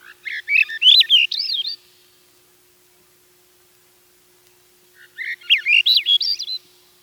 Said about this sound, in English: The song of a Veery would cheer even the most ardent sun worshipper. Swainson's thrush sings sort of a reverse Veery song.